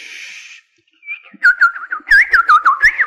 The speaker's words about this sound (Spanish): Con el canto de los pajaritos.